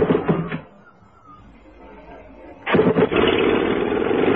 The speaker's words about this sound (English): Now, start the engines, please